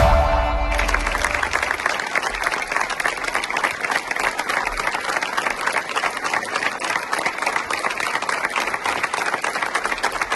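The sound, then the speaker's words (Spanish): Sustained applause at the funeral of Abel, a 35-year-old volunteer who died fighting a fire in the province of León, steady and dense with many hands clapping at once, continuing at an even loudness for about ten seconds after a brief low tone at the start. “Esto que escuchan son los aplausos en el funeral de Abel, el voluntario de 35 años que murió el martes mientras luchaba contra el fuego en la provincia de León.”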